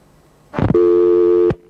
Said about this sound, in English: Telephoning New York on the 8th of December 1988 on behalf of William English, ringing